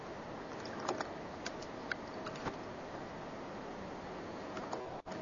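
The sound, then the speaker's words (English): Scattered, irregular keyboard clicks of someone typing a web address into a browser, fairly quiet over a steady background hiss, with no one talking. “So you're typing in something else.”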